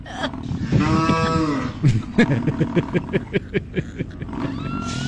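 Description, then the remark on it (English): A person imitates a cow with a long, drawn-out moo, followed by a series of short, rhythmic grunting bursts, fairly loud with no other talking. “Well, we're trying to recreate cow. This audio for you so you can understand what it might be like.”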